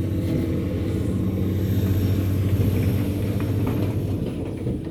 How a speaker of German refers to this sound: Ganz schön Verkehr her.